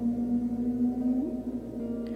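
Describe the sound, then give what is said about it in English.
Humpback whales singing: a long, steady low moan with a buzzy, harmonic tone that bends slightly upward partway through, then holds. No talking. “As you listen, you turn your attention to other humpbacks singing.”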